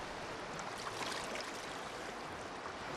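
rushing river water

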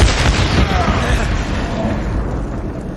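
explosion

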